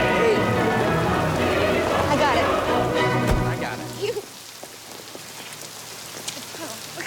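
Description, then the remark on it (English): Heavy rain pours in a dense, steady hiss for about four seconds outside an apartment building, then cuts off abruptly to a much quieter indoor space with only faint, scattered sounds. “In the pouring rain”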